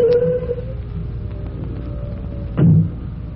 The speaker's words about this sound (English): It's still there when Chief Cody's car swings into the station house a few minutes later.